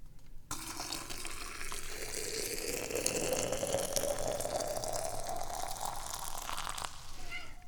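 Boiling water pours steadily from a kettle in a one-handed pour into a cup for Da Hong Pao tea, a continuous splashing stream whose pitch rises as the vessel fills, lasting about six seconds before it stops.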